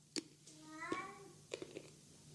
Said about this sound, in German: Ja, der Kater ist gerade zu hören. Ja, ich habe ihn gehört. Ja, es gab nämlich Fressen und danach muss er immer mal kurz die Mauzer rauslassen. Er muss die Mauzer immer rauslassen.